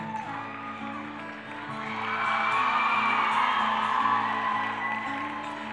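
A crowd yells and whoops together, the roar swelling after a couple of seconds into a dense, sustained wall of voices over a steady low background hum.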